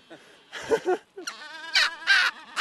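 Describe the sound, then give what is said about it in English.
Harsh, braying and honking calls from a busy seabird colony of albatrosses and penguins, several loud overlapping squawks and trumpeting cries, rising and falling in quick bursts. “It's easy to forget when you're standing in the middle of a city of birds, but listening to these sounds now, I can't help remembering that the albatross”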